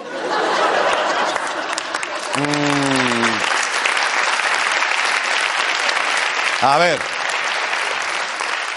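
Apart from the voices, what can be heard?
audience applause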